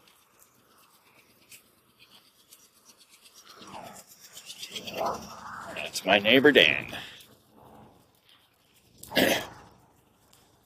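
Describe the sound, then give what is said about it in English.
A car's exhaust putters, sounding like a loose seal, with a rough, rapid pulsing that builds to a loud peak and then fades, followed by a short sharp burst. A man says a few words over it. “That little puttering sound, like sound like he got a little bit of a loose seal down there.”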